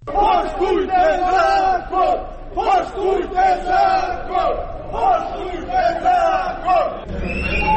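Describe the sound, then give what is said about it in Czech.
A crowd of Kap pensioners on a protest march through the streets of Podgorica, Montenegro, chants "Respect the law!" loudly in rhythmic, repeated bursts, voices rising and falling together, with sirens and whistles and a sustained high whistle-like tone near the end. “Ovo su uz zvuk sirena i pištaljki uzvikivali penzioneri Kapa tokom protestne šetnje ulicama Podgorice.”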